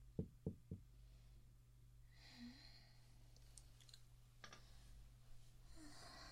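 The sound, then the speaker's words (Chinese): Three quick, sharp knocks on a door near the start, followed by faint rustling and shuffling over a steady low hum. “怎么不开门啊？”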